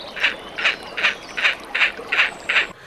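A great crested grebe gives seven harsh, nasal calls in a steady, evenly spaced rhythm. Each note is short and moderately loud against a faint background hiss, with no talking.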